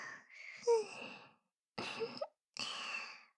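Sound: yawn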